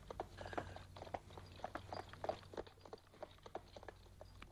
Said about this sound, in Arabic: أتسمع؟ أتسمع أقدام خيل قادمة؟ أعتقد أنه عبيد الله.